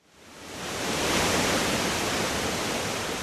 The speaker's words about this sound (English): The trees are dense, the path is narrow, and everywhere there's the sound of water. I hike to a clearing and hear it dashing against rocks below, clouds of mist wafting over my trail. This is Devil's Hopyard State Park